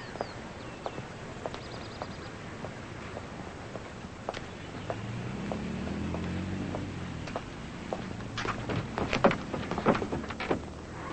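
A car door clicks open with a short cluster of latch sounds and light thuds near the end, after scattered footsteps and small knocks over a quiet outdoor background, as a man gets out of a car stopped in front of a house and opens the passenger's door.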